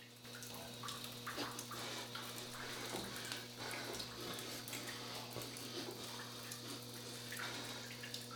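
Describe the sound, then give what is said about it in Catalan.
A steady rush of running water coming from a closed toilet stall in a women's restroom, continuous, with faint clicks and splashes scattered through it and a low hum underneath. “Es fixa en l'aigua que surt del lavabo tancat i mira d'obrir.”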